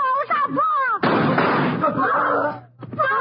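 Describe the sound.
A single loud gunshot bursts out, a harsh crack that rings and fades over nearly a second, with agitated voices speaking before and after it.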